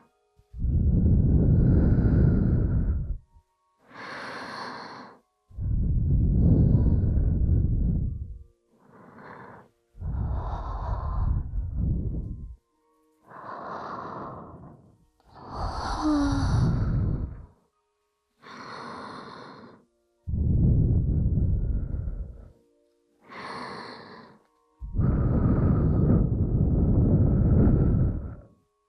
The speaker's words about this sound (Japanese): いっぱい私の吐息かけられて、力が抜けて、体がふにゃふにゃになっちゃった。